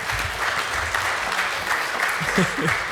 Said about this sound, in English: Because if you bring your own laptop, yeah, go ahead, a round of applause for that.